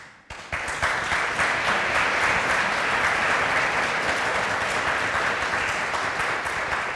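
An audience, including a panel member, breaks into applause after a speaker's remarks on decarbonisation, following a brief quiet start, a dense, steady wash of many hands clapping that holds loud and even for several seconds with no talking over it.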